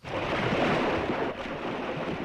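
sea waves

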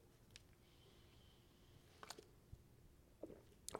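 sipping hot coffee

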